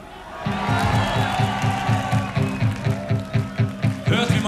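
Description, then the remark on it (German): A large audience, invited to clap and sing along, cheers and claps in a steady rhythm, the noisy roar of voices filling the space around a regular low, thumping beat. “Okay, Zeit zum Klatschen und Singen!”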